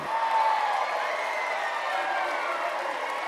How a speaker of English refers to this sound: Lots of people stop what they are doing to watch the cyclists race past. They clap and cheer. Go, go, go!